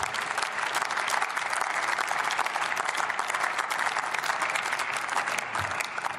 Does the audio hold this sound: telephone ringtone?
no